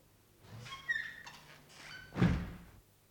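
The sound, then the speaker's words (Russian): A door swings shut with a solid thunk and a click of the latch, after a brief squeaky creak of the hinges; a single fairly loud impact with no talking. “Защелкните дверь, скажите секретарше, пусть никого не впускает.”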